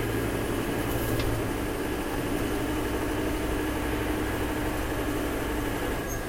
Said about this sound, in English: Got to back in. That's right. I always forget that this tractor, when you're parking it, you got to back it.